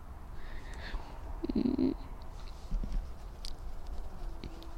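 A female kitten curled up on a chair gives a short, low purring rumble, about half a second long, followed by quiet rustling and faint taps.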